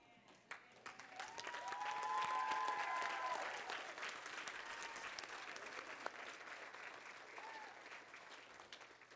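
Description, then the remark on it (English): An audience at a service stands and claps steadily for several seconds, the applause swelling early and then holding, with a few faint whoops or whistles rising above the dense patter. “Hey, let's all stand and give her a round of applause.”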